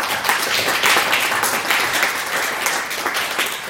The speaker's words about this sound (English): So that also deserves a round of applause, please.